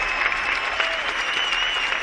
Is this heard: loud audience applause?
yes